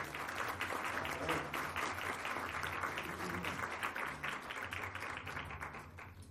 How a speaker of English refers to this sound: have another round of applause. Franklin High School.